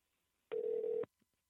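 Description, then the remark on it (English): A single steady electronic phone tone sounds for about half a second, like an outgoing call ringing on the line, then cuts off into near silence. Nobody speaks. “Oh no, what if they don't answer?”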